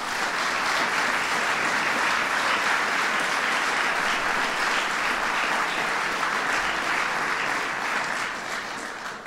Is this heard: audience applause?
yes